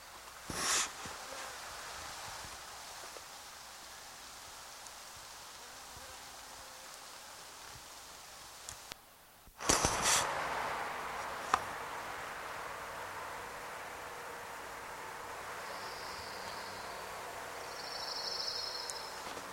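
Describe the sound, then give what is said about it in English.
Two brief, high, buzzy warbler trills, like an orange-crowned warbler's song, rise faintly near the end over a steady hiss of wind-like noise, after a couple of sharp knocks earlier. “Orange Crown Warbler number 3.”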